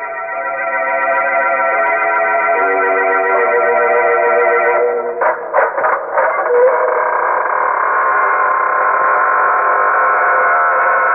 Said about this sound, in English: Hello. This is your host, welcoming you through the squeaking door.